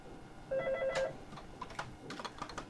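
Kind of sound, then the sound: signal or alarm, telephone ringing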